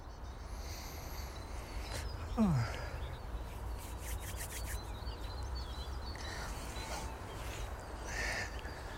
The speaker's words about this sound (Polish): O, grubodziób. To takie cykanie, czy słychać teraz nad naszymi głowami, to grubodziób. Takie ostre.